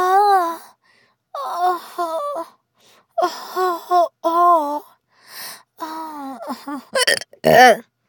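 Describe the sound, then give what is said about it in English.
A voice lets out a series of abrupt, squeaky hiccups between drawn-out moaning vocal sounds, ending in a few sharp, gulping catches of breath. “I hate hiccups, don't you?”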